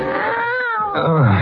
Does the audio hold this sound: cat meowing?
yes